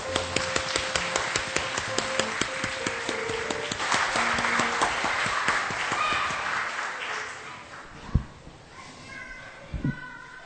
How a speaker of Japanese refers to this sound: 皆さん拍手で送りましょう。